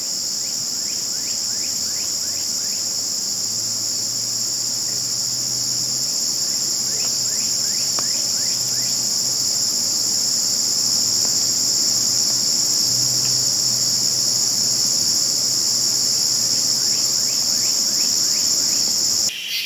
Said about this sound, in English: And then evening sounds. Tonight you're hearing the August evening cacophony of insects. And tonight we hear crickets and katydids, which seem to repeat over and over. Katydid, katydidn't, katydid, katydidn't, katydid, katydidn't.